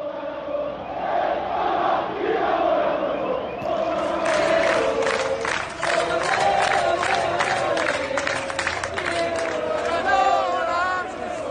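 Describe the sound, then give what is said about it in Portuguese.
A large crowd of Maradona's football fans in Buenos Aires, Argentina, chants in unison 'Diego is a feeling I can't explain', loud and sustained, with rhythmic surging voices and scattered cheers and whoops throughout. “Diego é um sentimento que não consigo explicar, cantavam os fãs do Maradona.”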